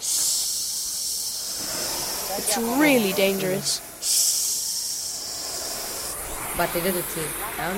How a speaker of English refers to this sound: They take a nap and make us kids operate the blowtorch. The torch makes a hissing sound.